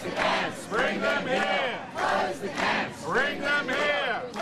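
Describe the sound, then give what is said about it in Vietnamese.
A crowd at a protest march through the streets of Melbourne, Australia, held over riots at offshore immigration detention centres, chants loudly in unison, voices rising and falling in repeated rhythmic phrases, a continuous dense wall of shouting that pulses roughly every second. “Tại Melbourne đã có các cuộc tuần hành qua các đường phố sau khi có thêm các vụ bạo động diễn ra tại các trung tâm giam giữ di trú ở ngoài nước Úc và cách xa hàng ngàn km.”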